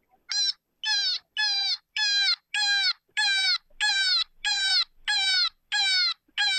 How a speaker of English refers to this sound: Cottontail in distress.